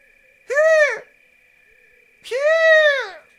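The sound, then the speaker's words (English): A person imitates a short-eared owl call: two loud voiced hoots, each rising and then falling in pitch, with the second one longer. A faint steady tone hums underneath. “I will say an owl name, and then you will attempt to do the owl call. Okay. Short-eared owl.”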